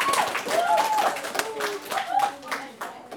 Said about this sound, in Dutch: Hey, applaus voor de moppetappers.